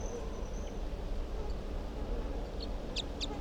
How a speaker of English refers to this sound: Start recording. Wild bird.